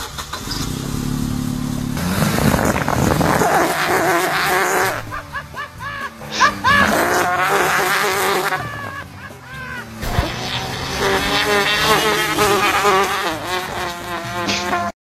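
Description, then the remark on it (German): An Opel AMG car engine is started with an extra-large bicycle inner tube, two tubes glued together, attached to the exhaust, making a loud, continuous buzzing, fart-like rasp whose pitch swells and dips as the revs change. “Ich mache den Motor jetzt an.”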